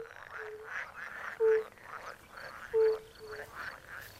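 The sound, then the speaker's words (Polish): A chorus of green water frogs croaks in rapid, overlapping bursts in a marshy wetland, with two louder, drawn-out calls standing out against the steady outdoor background. Nobody speaks. “Także mamy tutaj wszystkie żaby, właśnie te wodne, zielone”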